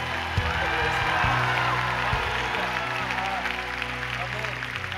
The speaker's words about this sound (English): And everybody say, let's give Jesus a big round of applause.